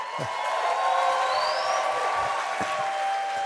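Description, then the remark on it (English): An audience applauds a guest's 2020 election win, steadily for a few seconds, a dense wash of clapping at an even, fairly loud level, with a few whoops and cheers rising above it. “That is definitely something worth applauding.”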